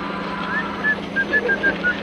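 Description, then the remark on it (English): Someone whistles a bouncy, circus-like tune in short, quick notes, clear, over a steady low droning hum in the background. “So unless you want to stay here and get messed up nice and proper by your new mates, you better start whistling something bloody cheerful. Nice and loud now.”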